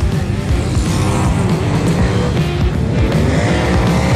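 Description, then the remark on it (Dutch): Loud, continuous roar of race car engines revving and growling after a race final, with a dense low rumble and rising and falling pitch, no speech over it. “Die paardenkrachten die onder die motorkappen vandaan komen.”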